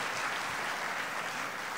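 A large church audience claps loudly and steadily for the Lord, the many hands blending into a dense, continuous wash of applause with no voices heard.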